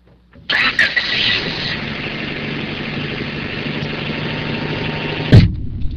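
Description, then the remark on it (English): A car engine turns over and settles into a steady running hum for several seconds, then cuts off with a low thump near the end; the car is picking someone up from school in Palo Alto on a Friday afternoon. No one speaks. “It's a Friday afternoon, and my dad's driven 3 hours in rush hour traffic to come pick me up from school in Palo Alto.”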